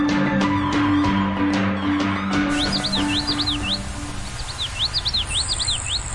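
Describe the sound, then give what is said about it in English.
A small, shy Florida grasshopper sparrow, born and raised in captivity and flying with tiny transmitters, sings a series of high, thin, rapid chirps in two short bursts, clear, as soft background music fades out beneath them. “A small and shy Florida grasshopper sparrow born and raised in captivity is flying with tiny transmitters so scientists can track and quickly learn what is pushing the bird towards extinction.”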